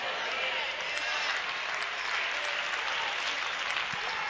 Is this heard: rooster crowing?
no